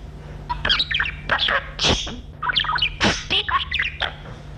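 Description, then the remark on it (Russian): A small pet bird in its cage chirps and squawks in a quick, irregular series of sharp calls, with a steady low hum in the background and no talking. “Птичка, это птица, Петрович”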